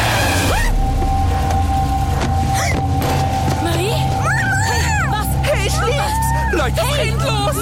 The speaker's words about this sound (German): Achtung, Auto!